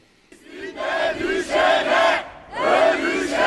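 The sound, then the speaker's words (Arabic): A crowd of protesters at a Turkish boycott movement demonstration in a square in Istanbul, Turkey, over Gaza, chants slogans demanding an end to normalization in unison, loud voices rising in two sustained, rhythmic bursts with a brief pause between them. “المتظاهرون أكدوا على الاستمرار بحملة المقاطعة لكافة مصالح الكيان مرددين هتافات تطالب بوقف التطبيع بكافة أشكاله.”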